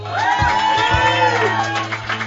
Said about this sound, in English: The date got more applause than me.